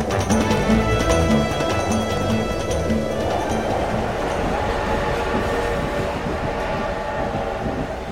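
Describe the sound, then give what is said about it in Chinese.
A steam locomotive rolls into Nanjing railway station, puffing white steam, with a loud, steady mechanical rumble and hiss, a low tonal drone sounding in the first few seconds before the noise evens out. No voices. “此刻在南京火车站内，刚刚驶入的蒸汽机车正在吐着白雾。”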